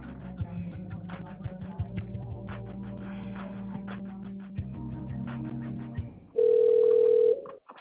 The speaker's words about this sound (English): Thank you for holding. That line is ringing.